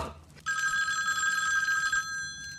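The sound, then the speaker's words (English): A telephone bell, a bow phone, rings in one sustained burst of bright, rattling tones lasting about a second and a half, loud, then cuts off into a quiet background. “The bow is ringing. I'll answer it.”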